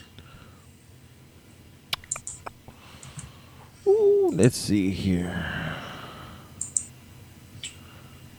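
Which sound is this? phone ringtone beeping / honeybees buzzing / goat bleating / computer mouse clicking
computer mouse clicking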